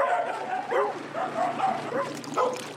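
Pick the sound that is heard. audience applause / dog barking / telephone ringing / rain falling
dog barking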